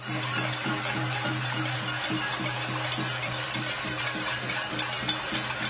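People in Barcelona bang on metal pots with spoons or against balcony railings in protest over the Catalan independence referendum: a dense, continuous clatter of sharp rapid strikes from a crowd, with a steady low hum underneath and no break in the din.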